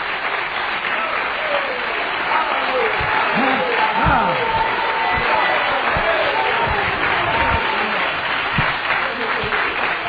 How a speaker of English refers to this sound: Would you clap your hands for that tonight?